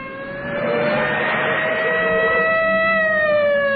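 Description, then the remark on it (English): A loud police siren on a police car driven for a film shot holds a steady, piercing tone over a rumbling engine, its pitch sagging slightly as the car passes by. “He goes piling by, and then this was a police car that we controlled to do this pan.”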